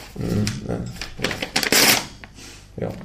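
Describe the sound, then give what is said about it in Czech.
A man tears a sheet of paper in a short, crackling, fairly loud burst, with brief rustling around it and a man's voice murmuring before and after. “Je to papír a jsem přesvědčen, že ho dokážu roztrhnout teďka.”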